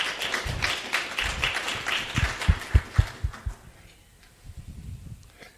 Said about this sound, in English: That was beautiful. It's worth applause.